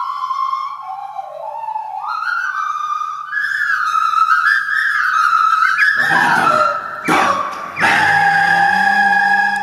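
A nose flute, blown through the nose with the mouth as a resonating body shaping pitch and tone, plays a sliding, whistle-like melody, its pitch gliding up and down, before a couple of harsh, breathy bursts break in near the end.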